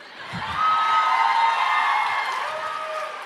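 A live audience cheers and whoops loudly, a dense roar of many voices with shrill whistles and yells rising above it, swelling quickly and holding steady throughout.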